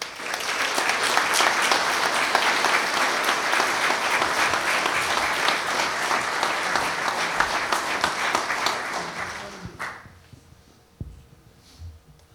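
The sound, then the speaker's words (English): A large audience applauds steadily for nearly ten seconds in tribute to a man being remembered, instead of a moment of silence, a dense wash of many hands clapping at once, before the clapping fades out and a few faint scattered sounds remain. “So I will not ask everyone to take a moment of silence for him, but instead I ask everyone to give a round of applause for this truly noble man.”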